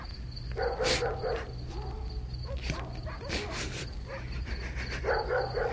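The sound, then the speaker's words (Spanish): Dogs bark in scattered bursts from several directions, some yelping and whining between barks, set against a steady low hum. “y al quedar libre, oyó cómo por todas partes ladraban los perros.”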